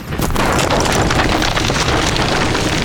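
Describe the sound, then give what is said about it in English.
A power inlet erupts in a loud, roaring burst of burning gas, sending masonry shards into the sky, and keeps rumbling at a steady, heavy level for about three seconds, a dense crackling whoosh with deep low-end weight and no voices. “The power inlet erupted into a plume of burning gas, sending a cloud of masonry shards into the sky.”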